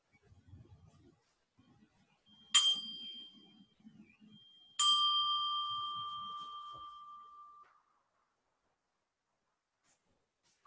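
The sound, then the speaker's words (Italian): A bell is struck twice to end a walking practice: a short first ring, then a clear, resonant strike that sustains and slowly fades over several seconds. Faint low rustling comes before, then quiet. “Sentiremo un suono di campana che dà l'inizio alla pratica e poi un suono di campana che la termina.”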